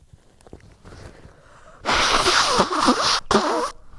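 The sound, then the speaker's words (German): A loud, rushing nose blow, about a second and a half of harsh, hissy airflow, a brief pause, then a shorter second blast. Soft rustling comes before it and no one speaks. “Wollte ich, oh, ich muss mal kurz gucken, ob ich Nase putzen kann.”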